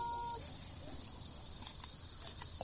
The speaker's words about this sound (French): Je déteste cette putain de bestiole de merde. Quoi? Moustique.